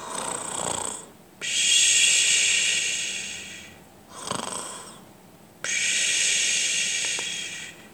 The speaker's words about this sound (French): Pierre entend les ronflements.